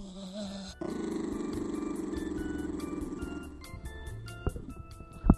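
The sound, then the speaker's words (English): A happy dog lets out a low, sustained rumbling growl that sounds almost like a purr, steady for several seconds, then trails off into a few faint shuffles and a sharp knock. “This dog is fucking purring.”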